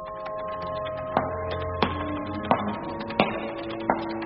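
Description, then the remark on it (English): Five evenly paced footsteps approach a cupboard, tapping out against a steady low hum, each landing crisply, then the steps come to a halt before the end. “Minnie cowered with terror as the footsteps came to a halt and the cupboard door was rattled with great force.”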